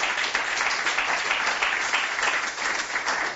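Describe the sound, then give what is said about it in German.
Steady applause from a sizable audience in the hall of a cultural centre in Hennersdorf, Lower Austria, a dense, continuous wash of many hands clapping at even loudness throughout, with no voices heard. “Ich begrüße das Publikum hier im Saal, alle Hörerinnen und Hörer. Danke für den Applaus.”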